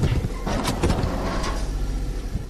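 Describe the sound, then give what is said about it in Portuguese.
A garbage truck collects waste at night, around 9 pm, in the Olene neighbourhood north of the capital, its heavy engine droning steadily while several sharp mechanical clanks and thumps of collection gear break through, with no talking. “À noite, às 21 horas, um caminhão de recolha de lixo faz o seu trabalho no bairro de Olene, mais a norte da capital.”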